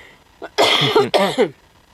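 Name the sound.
coughing fit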